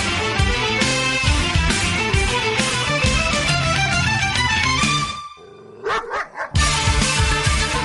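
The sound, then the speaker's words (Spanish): A small dog barks in a radio studio during the show Onda Animal, a quick run of sharp, high yaps, with a short pause and a few more yips breaking through a dense, busy wash of sound. “quería dejar al perrete antes de dar paso al sumario”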